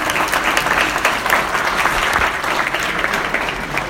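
A large audience claps steadily for a speaker at a presentation, a dense, sustained wash of many hands with no breaks, loud, with no voices heard over it.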